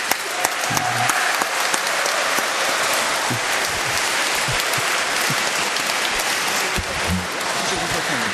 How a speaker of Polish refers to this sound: Dziękuję, brawo dla niego.